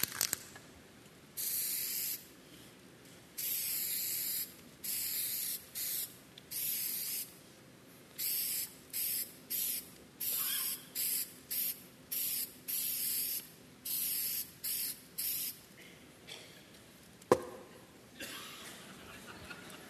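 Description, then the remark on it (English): An aerosol spray paint can hisses out in a long series of bright, airy bursts as graffiti is painted, some quick and some held longer, separated by short pauses, with a sharp click near the end. “You're going to clap for graffiti?”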